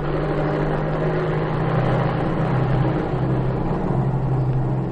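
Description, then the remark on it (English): The engine of airplane 291R revs for takeoff, a loud, steady roar with a deep droning hum underneath that holds for the whole stretch without any voices. “I'm going to take off.”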